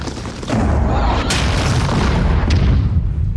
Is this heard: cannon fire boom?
yes